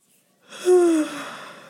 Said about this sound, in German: Bei mir gähnt's schon wieder.